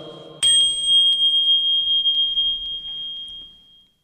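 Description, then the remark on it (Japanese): A single strike of a Buddhist orin bell opens into a bright, high, pure ringing tone that hums steadily and slowly fades over several seconds, with no voices. “いい音が響いております。おりんの音。”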